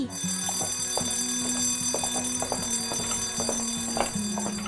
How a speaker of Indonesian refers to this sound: Wah, bel masuk sudah berbunyi.